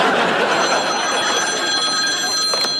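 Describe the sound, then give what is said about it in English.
A telephone bell rings continuously at a diner, a bright, steady metallic jangle filling the whole moment, fairly loud, with no one speaking over it. “Jake, it's Amanda on the phone.”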